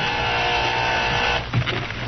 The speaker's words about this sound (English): Meantime, Violet Hill was resting in her small one-room apartment when the door buzzer sounded.